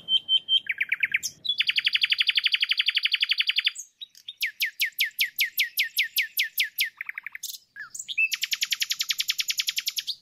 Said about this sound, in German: Du bist draußen an der frischen Luft, siehst die Sonne, hörst die Vögel.